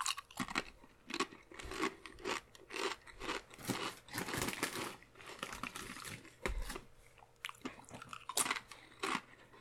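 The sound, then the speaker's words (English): Loud, wet crunching of chips chewed with a full mouth, irregular bursts of crackly bites and smacking repeating throughout, with no talking. “I'm talking my mouth full. It's kind of gross.”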